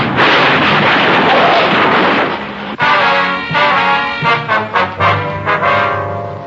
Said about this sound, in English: As we drove down the street after the stoplight had changed, the car had failed to make a boulevard stop coming out of an alley, and we'd hit it broadside. The damage done to both cars was considerable, and we'd lost our suspect.